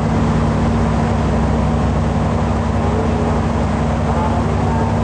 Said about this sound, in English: Travel to the next towns can only happen via boat, and so I hop on a river boat for a 4 a.m. departure.